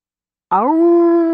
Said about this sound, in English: Ow! Ow! Ow! Piercing howls roused Martha Hostetler from her sleep, and she rolled over in bed. Ow! Ow! Ow! There it was again. That couldn't be Polly. The beagle had a high-pitched howl, not deep and penetrating.